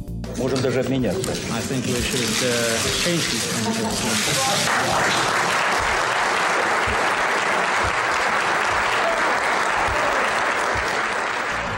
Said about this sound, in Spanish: Con esos aplausos dedicados al intercambio de plumas y de los documentos rubricados, culminó la conferencia de 16 minutos que significó un primer cambio de paradigma.